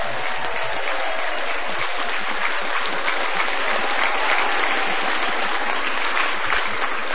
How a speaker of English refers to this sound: And first of all, I think we should give a nice round of applause for the Nevada Council